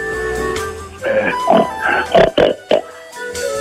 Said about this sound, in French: Quel son fait le cochon?